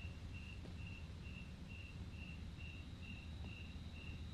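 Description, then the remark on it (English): A cricket chirps in a steady, even rhythm, roughly two pulses a second, quiet over a low, constant background rumble. “There are all kinds of things you could focus on right now. The sound of the crickets, the distant sound of the traffic.”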